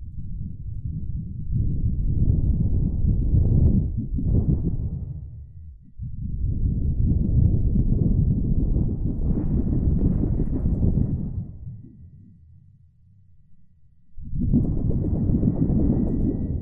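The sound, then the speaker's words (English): Thunder sound effect for a radio play, made by shaking a big piece of sheet metal: loud, deep rolling rumbles that surge in long waves, ease into a quieter low grumble, then roar back up again. No one speaks. “basically it's just a big piece of sheet metal and we shake it. And the way you shake it or pound on it or do things like that makes thunder sounds.”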